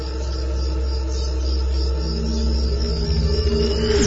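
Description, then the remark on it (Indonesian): Steady, continuous chirping of crickets at night, a dense shimmering trill with a low hum underneath, sustained without pause and no voices present. “Hanya terdengar suara-suara jangkrik dan suara khas keheningan malam.”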